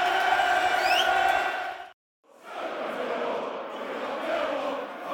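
A football stadium crowd roars and cheers after Ryan Longman's goal, about 60 minutes into the match, in a loud, sustained wall of voices with a few whoops. It cuts out for a brief moment, then the roar swells back.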